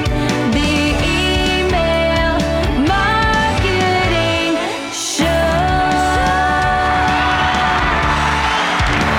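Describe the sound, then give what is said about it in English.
A loud, dense crowd roars and cheers with shrill screams and whoops, sustained for several seconds with a brief dip midway before surging again. “That crowd of screaming fans.”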